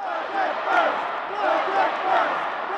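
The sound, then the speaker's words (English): A large crowd of demonstrators chants and yells together outside the Illinois House chambers during the governor's speech, calling for a budget solution, the words indistinct, forming a steady roar that swells rhythmically every second or so. “Though it was hard to make out what they were yelling from the House chambers where Rauner stood before lawmakers to give his speech, all throughout it, demonstrators were just outside chanting for a budget solution.”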